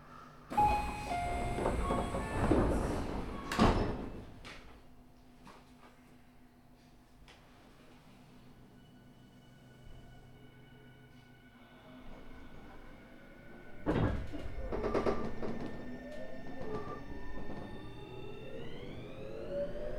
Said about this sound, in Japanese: 1番線、ドアが閉まります。ご注意ください。